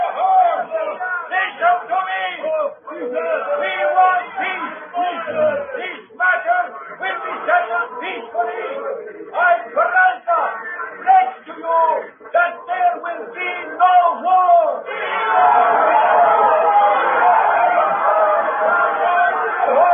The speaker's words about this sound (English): trying to quiet the angry, shouting mob below.